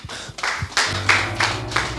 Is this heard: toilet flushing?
no